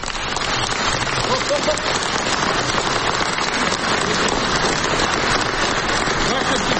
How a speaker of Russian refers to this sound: «Ваше святейшество, эти аплодисменты слышны сейчас по всему миру», — заявил Петр Порошенко.